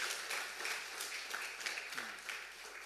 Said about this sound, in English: I give a big hand clap as she goes there.